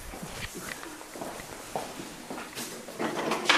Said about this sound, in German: Hier wird eine Schublade aufgemacht.